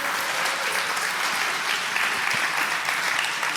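A crowd claps steadily for a few seconds, a dense, even wash of applause filling the room with no voices standing out.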